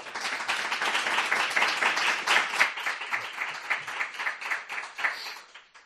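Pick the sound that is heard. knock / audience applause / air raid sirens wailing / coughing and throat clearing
audience applause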